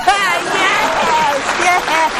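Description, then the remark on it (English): A crowd gives a smattering of applause after a plea to please clap, with steady clapping mixed with murmuring and raised voices, holding at an even, moderately loud level for the full couple of seconds. “That's a please clap.”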